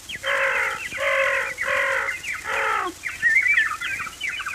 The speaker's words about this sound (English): The animals began to howl. And the birds to sing and cry.